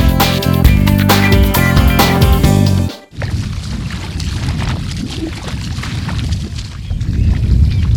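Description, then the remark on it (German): A few seconds of music cut off abruptly, giving way to steady outdoor coastal ambience on the Wadden Sea tidal flats off the eastern part of Spiekeroog, recorded during a bird count: broad wind and water noise with a low rumble, fairly loud and continuous, with no voices. “Was hören wir da gerade? Wo sind wir da gerade? Ja, wir sind jetzt im Wattenmeer und zwar vor dem östlichen Teil von Spiekeroog.”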